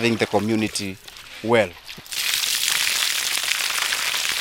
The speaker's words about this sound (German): Ein paar Kilometer flussabwärts schüttet Elisabeth Kalekie Wasser in einen knallgelben Plastikkanister